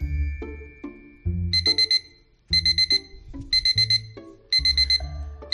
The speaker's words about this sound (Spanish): No hay otro sonido más desagradable que escuchemos todos los días. Todos, un día tras otro. El maldito despertador. Pasa que paradójicamente, oiga, es uno de los sonidos más útiles, ¿no?